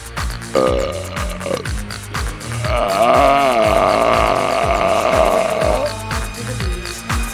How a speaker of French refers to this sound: Vous irez écouter le brame du cerf.